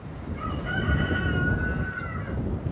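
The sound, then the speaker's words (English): A rooster crows once in a long, drawn-out call lasting about two seconds, clear over a low outdoor rumble, with no voices present, at a home just outside Douglas where chickens, cows and goats are raised. “She raises cows, chickens, and goats, and grows vegetables in the summer.”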